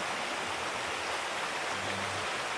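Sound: flowing river water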